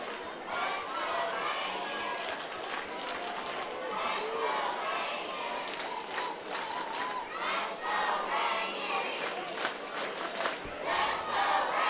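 A baseball crowd in the ninth inning cheers and shouts in a dense, steady roar that holds at a fairly even loudness for the whole stretch, with a few brief sharper bursts rising out of the noise.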